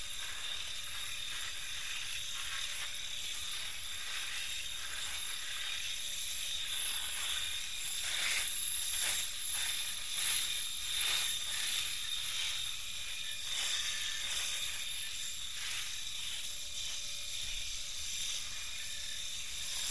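An electric razor buzzes steadily for about twenty seconds, its whine growing rougher and more crackly in the middle as it cuts through beard stubble. No one speaks.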